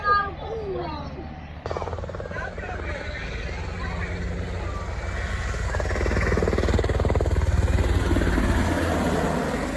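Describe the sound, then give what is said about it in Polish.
A Black Hawk helicopter roars overhead in a flyover that was the main attraction of an outdoor event, its rotor throb growing louder and steady, with crowd babble and voices mixed underneath. “Koniec, główną atrakcją miał być właśnie teraz przelot. Chyba żałujesz. Przelot tego Black Hawka.”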